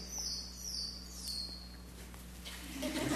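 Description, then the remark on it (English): Faint, high-pitched bat chirps flutter in quick repeated sweeps over a steady low hum, fading out and giving way to a soft hiss near the end; nobody speaks. “You got bats. That's what that was.”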